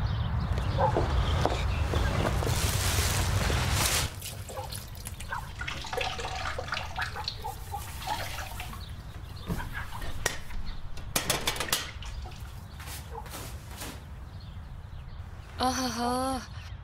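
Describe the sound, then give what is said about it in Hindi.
Tap water runs loudly at first, then eases to a softer trickle while dishes being washed, including small items, clink and clatter now and then; a voice briefly speaks near the end. “कुछ नहीं, जो बर्तन आपने धोने को कहा था धो लिए हैं, बस कुछ छोटी चीजें हैं वो भी साफ कर देती हूँ।”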